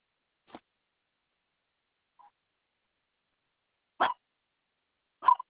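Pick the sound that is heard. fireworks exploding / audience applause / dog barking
dog barking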